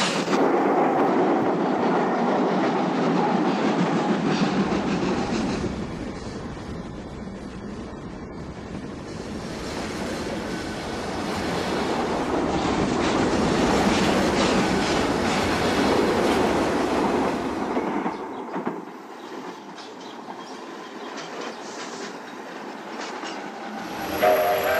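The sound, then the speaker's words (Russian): A steam train carrying prisoners to a concentration camp pulls away. Its wheels clatter steadily over the rails while the locomotive chuffs, a loud, continuous rumble that swells and rolls on without any voices. “Его поезд тоже трогается. Бегут колеса, пыхтит паровоз.”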